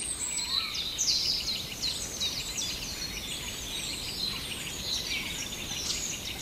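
A Eurasian jay mimics a crow's call, its harsh notes mixed into steady high chirping and twittering from other birds over a constant hiss of background noise, with no talking.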